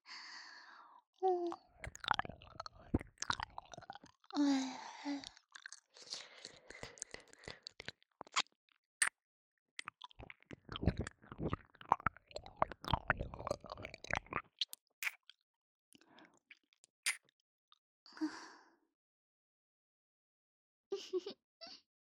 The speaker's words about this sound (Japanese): 先輩のこと好きな私が勝手にペロペロしてるだけなんですよ。気持ちよかったらはぁはぁ言ってくださいね。